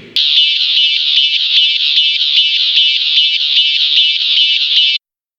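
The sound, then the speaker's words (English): A bright, buzzy synth tone holds steadily for about five seconds while an EQ shapes it, giving a rapid, regular pulsing sweep in its brightness. No voices, and it cuts off abruptly. “E is for EQ.”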